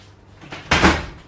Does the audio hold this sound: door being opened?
yes